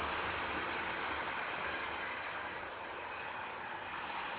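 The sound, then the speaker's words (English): A train rolls along the rails with a steady, loud rumbling roar that stays constant throughout, uninterrupted, with no voices. “Waiting for the train?”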